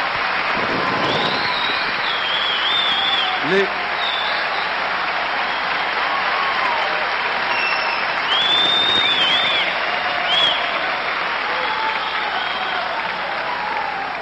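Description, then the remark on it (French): A large crowd of workers of the Bédjane applauds steadily and loudly, a dense, sustained wash of clapping that barely varies over the whole stretch, with a few scattered shouts and whistles rising above it. “C'est pour ça que ça applaudit autant que ça.”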